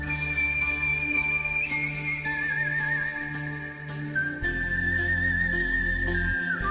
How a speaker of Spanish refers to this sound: Bueno, hay quien convierte el silbido en una segunda voz y son capaces de hacer maravillas, ojo, sí, ¿eh?